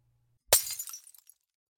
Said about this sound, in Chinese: 你怎么往地上砸呀？你砸我呀？往我头上砸呀？